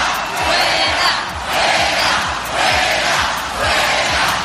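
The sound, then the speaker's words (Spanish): A large protest crowd at a rally organized by Unión del Pueblo Navarro, backed by Ciudadanos and the Partido Popular, in the city hall square against a censure motion on the mayor, chants "fuera, fuera" in unison, the loud, roaring voices rising and falling in a steady rhythm of about four swells. “Con gritos de fuera, fuera, la convocatoria ha sido organizada por Unión del Pueblo Navarro, apoyada por Ciudadanos y el Partido Popular.”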